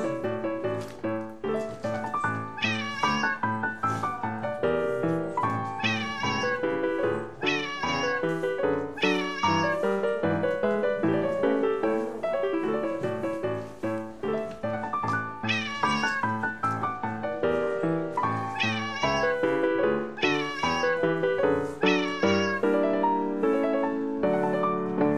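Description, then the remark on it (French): A cat meows over and over, loud, in a steady run of drawn-out, rising and falling cries that sometimes stretch into a wailing yowl, with no talking. “Le chat-tigre s'est levé, s'est étiré, puis il s'est mis à danser parfaitement bien.”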